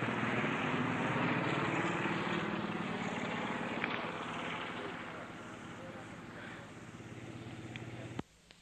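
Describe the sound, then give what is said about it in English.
A loud, steady helicopter drone with a throbbing rotor beat as the helicopter flies over and circles during a hostage situation, sustained for several seconds, fading slightly before cutting off abruptly near the end. “Helicopter going over.”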